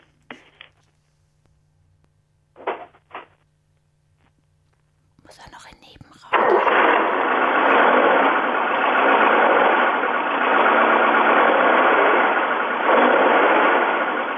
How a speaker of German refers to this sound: Das Geräusch des anspringenden Motors.